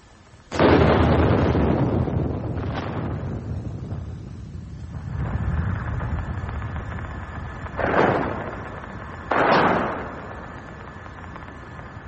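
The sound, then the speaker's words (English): An earthquake recorded in July by seismic sensors under the Irish Sea: a sudden loud boom that fades into a long low rumble, followed by further muffled thuds and bursts. No voices are heard. “It was also in July that fire destroyed the roof of the south transept of York Minster and that sensors under the Irish Sea recorded this sound.”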